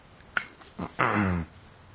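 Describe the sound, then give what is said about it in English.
A person reading an audiobook aloud briefly imitates a low, rough growl from the throat, a single short snarl lasting about half a second, fairly loud, preceded by a faint click and breath. “But I know that if I actually try to growl deep in my throat, it's going to make it so I have to stop reading, because my throat will hurt.”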